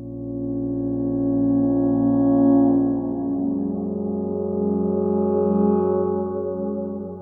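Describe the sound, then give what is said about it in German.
A sustained, buzzy harmonic tone washed in tape echo from a Roland Space Echo, its layered repeats smearing together and the pitch wavering and drifting in timing and pitch after the first few seconds, at a steady moderate level with no voices. “Den Space Echo von Roland, den habe ich da immer dran und der driftet ja auch immer so timingmäßig weg und im Pitch.”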